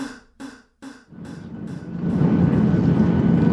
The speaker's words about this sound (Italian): Sono in aereo e sto andando a Catanzaro a suonare.